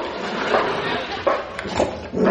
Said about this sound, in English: That sounds like two dogs in there.